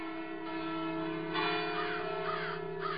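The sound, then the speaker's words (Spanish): Cathedral church bells in Halifax toll as a sign of mourning, ringing out in a steady, sustained wash of overlapping tones, their rich harmonic hum lingering continuously with brighter swells of clanging partway through. “Esa fue la señal para que la catedral hiciera redoblar sus campanas, y mientras eso sucedía, otras 40 iglesias en Halifax también hicieron redoblar sus campanas como símbolo de luto en la ciudad.”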